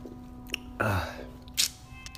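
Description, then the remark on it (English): A single sip of Diet Snapple from a bottle, a brief wet slurp followed by a short airy breath a moment later, against a quiet low hum with no talking. “I am sitting here right now drinking a Diet Snapple. Okay, I wanted to tell you that because I'm finna take a sip real quick before I get into this podcast.”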